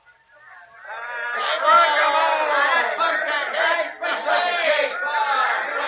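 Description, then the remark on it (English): A large crowd roars and cheers at a ball game inside a prison, a dense wall of many voices swelling quickly after a brief quiet start, then holding loud and steady with small dips and surges. “We're getting out today during the ball game.”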